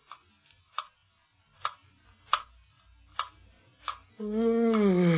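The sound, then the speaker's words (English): A clock ticks steadily, about six sharp, even ticks spaced under a second apart, before a voice comes in over the last second. “We have waited an hour by that clock.”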